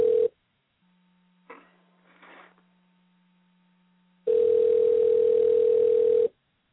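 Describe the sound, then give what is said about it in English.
A steady telephone dial tone hums briefly, cuts out to a quiet stretch with a faint low hum and two short clicking bursts, then the loud tone returns for about two seconds. No voices. “They're dialing up Larry right now.”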